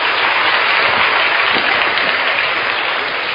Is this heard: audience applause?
yes